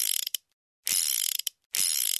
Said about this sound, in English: I quickly found a safe hidden away in one of the cupboards. I twirled in the combination.